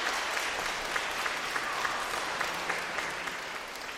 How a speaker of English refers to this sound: It is I! You may applaud.